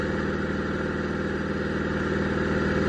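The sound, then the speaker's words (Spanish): A small propeller light aircraft engine idles steadily on the ground at an airfield after landing, stopped near the hangars with the engine left running: a continuous low throbbing hum with a fast regular pulse and a broad buzzy upper layer, loud and unchanging throughout. “Con el motor en marcha, David abre la puerta, se suelta el arnés y baja el plano”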